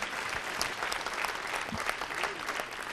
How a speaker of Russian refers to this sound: аплодисменты, пожалуйста. Встречайте, Михаил Пореченков.